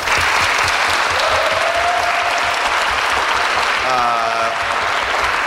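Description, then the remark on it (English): A crowd claps loudly and steadily for several seconds, dense applause with a few faint cheers or whoops rising briefly through it, as the audience votes by applause for the film Night of the Living Dead. “By round of applause, again, based on our four films, what do you think should be on the list?”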